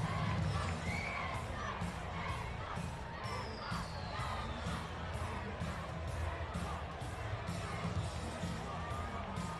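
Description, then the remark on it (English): A large crowd at a Little League event cheers and shouts steadily for the Braves team from South Valley, a dense wall of voices with high children's yells mixed in, staying loud and sustained for the whole stretch without a break. “From South Valley, let's make some noise for the Braves.”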